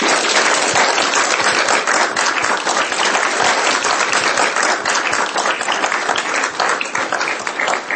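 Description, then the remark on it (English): Sustained applause from a sizable audience for the panelists at a library panel event, a dense, steady wash of many hands clapping at once, loud and continuous for the whole stretch without letting up. “A huge round of applause.”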